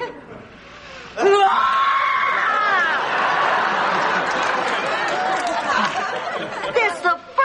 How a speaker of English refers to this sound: I ever heard anybody say I'm so mad I could scream and actually do it.